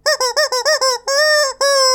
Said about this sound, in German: Der nun kommende Vogel der Woche kann auch, naja, leichtes Quietschen enthalten. Heute das Gummihuhn, Gallus latex. Das Gummihuhn ist ein sehr beliebter Vogel. Es wird von vielen Menschen wegen seiner Stimme gemocht.